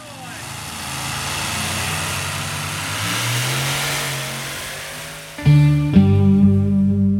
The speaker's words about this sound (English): Tractor pulling? Yes! At a tractor pulling competition, powerful tractors fitted with extra engines pull a very heavy sled along a 100 metre track.